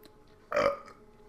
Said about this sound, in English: The cat burped like that. Can you believe it, guys?